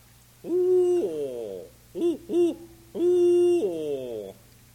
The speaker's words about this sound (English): Owl.